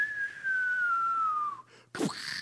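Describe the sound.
A person imitates a falling atomic bomb, whistling one long, steadily descending tone for over a second, followed by a brief, breathy burst of noise like a mouth-made explosion.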